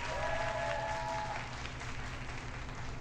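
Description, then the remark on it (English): An audience applauds in a dense, steady wash of clapping that carries on for the whole three seconds, with a thin high tone ringing briefly over it at the start. “The audience applauded wildly, the camera shook, and the video abruptly ended.”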